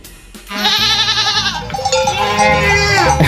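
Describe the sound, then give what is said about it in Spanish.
Loud goat bleats with wavering harmonic cries overlap one another, while metallic cowbell clanks ring beneath them, from a herd of 140 goats grazing without fences in Berzosa de Lozoya, Sierra Norte de Madrid, Spain, at about 1000 metres altitude. “Son cabras y teletrabajan gracias a Clara Benito, que ha sido la primera persona en hacer esto en España.”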